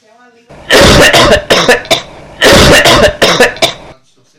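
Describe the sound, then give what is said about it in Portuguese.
A woman coughs in two loud bursts, each a rapid cluster of harsh hacking coughs separated by a brief pause. “Ei, olha a tosse dela.”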